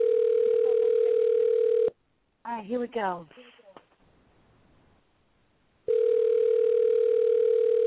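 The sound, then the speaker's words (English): A steady, loud electronic telephone tone plays for about two seconds as the last person on a phone list is called, stops while someone briefly speaks, then after a short pause returns, holding one unchanging mid pitch. “this is the last person for us to call up”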